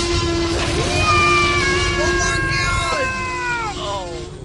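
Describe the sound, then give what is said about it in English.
A giant dinosaur in the Dungeon Quest production roars above a crew's heads after the ground shakes: a long, loud, drawn-out roar, its pitch wavering with harsh overtones before sliding downward, over a rumbling, noisy background. “The crew looks up to see a giant dinosaur roaring above their heads.”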